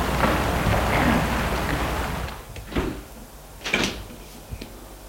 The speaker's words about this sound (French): Le portail s'est ouvert, il entre dans sa propriété, va sonner à la porte de la maison. La porte s'ouvre.